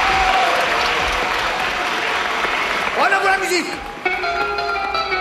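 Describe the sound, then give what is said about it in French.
A crowd claps for the first contestants of a dance competition in a dense, steady wash of applause, and in the last couple of seconds a few sustained tonal sounds, like cheers or a brief musical phrase, rise over the clapping. “Voici nos premiers concurrents, les applaudissements.”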